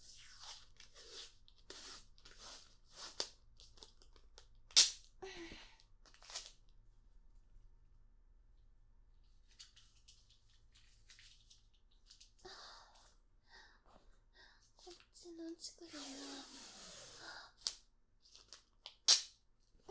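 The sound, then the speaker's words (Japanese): Crinkly crackles and short rips of adhesive tape being pulled and torn to fix a small motor in place so it won't fall, with a quiet pause midway, then a longer stretching peel and several sharp snaps as pieces are pressed down. “モーターは落ちないようにテープで固定してと。”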